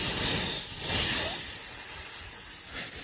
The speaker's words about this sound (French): Écoutons justement un son qui est un sifflement de serpent.